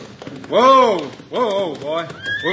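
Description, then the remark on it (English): A horse ridden by Hickok into town whinnies in a series of rising-and-falling, high-pitched neighs while its hooves clop steadily underneath, the loud calls coming in three bursts. “Now look, here comes Hickok now, riding into town.”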